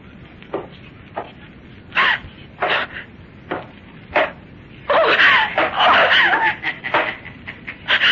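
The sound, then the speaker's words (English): A voice cries out in short, sharp bursts, then breaks into a longer stretch of loud, frantic screaming and wailing before trailing off into a few final yelps. “Please, don't scream.”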